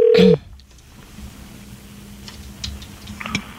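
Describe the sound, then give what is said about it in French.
A phone number is dialed: a loud electronic tone lasts a fraction of a second, then a low steady hum follows with a few faint clicks and no voices. “On appelle.”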